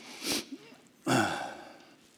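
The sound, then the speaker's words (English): A short, sharp sniff, followed a moment later by a longer, louder wet sniffle with a slight breathy, voiced edge; no talking. “My kids hate it when I start sniffling, but you know, I've been in Canada for a week.”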